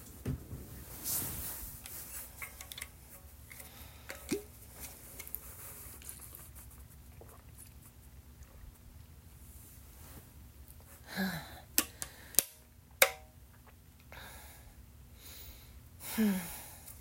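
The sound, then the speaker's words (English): Several soft sips and gulps of water spaced across a quiet stretch, with a couple of sharp little clicks and a faint steady hum underneath; no one speaks. “I know I said no talking, but I really need a sip of water.”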